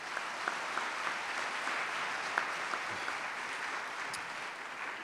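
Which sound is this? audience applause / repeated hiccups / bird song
audience applause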